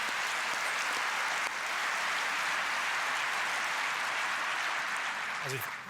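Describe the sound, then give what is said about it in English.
An audience claps steadily for about six seconds, a dense, even patter of many hands at a consistently loud level, with a brief rising voice-like sound just before it ends. “And that, I think, is worth an applause.”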